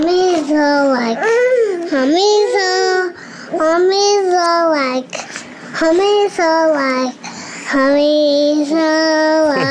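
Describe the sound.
A small child sings a wavering, high-pitched tune close to the mic, while a baby's babbling voice chimes in alongside, with brief pauses between phrases.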